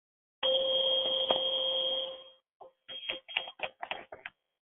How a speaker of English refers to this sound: Starting out with 5.2 hertz chime.